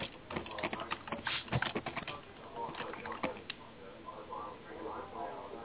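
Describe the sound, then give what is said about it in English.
Rapid, irregular keyboard typing: a flurry of sharp clicking keystrokes that bunch up, then thin out, over a faint murmur of voices in the background. “It's whoever's typing, it's not me.”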